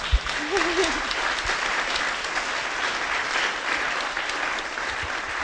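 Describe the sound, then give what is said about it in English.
A crowd claps steadily for several seconds for last year's pants award winner, a dense, even wash of applause with scattered sharper claps, and a brief voice rises faintly near the start. “And we should applaud her again.”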